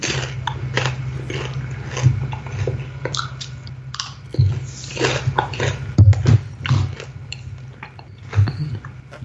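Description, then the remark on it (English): Wet chewing and biting of sea salt chocolate, with irregular crunchy, smacking bursts over about nine seconds against a low steady hum, and no talking. “The more I eat of it, the more the salt, like that sea salt taste comes through, and it really balances well.”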